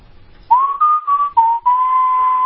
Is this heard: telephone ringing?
no